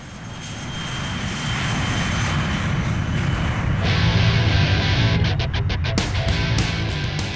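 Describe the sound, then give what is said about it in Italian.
A loud, steady airplane engine roar builds and holds, like an aircraft powering up for takeoff, with a broad rumbling drone and no voices; the plane is carrying a band and its manager back to New York. “Il giorno seguente la band, assieme al suo manager, sale sul primo aereo disponibile e torna a New York.”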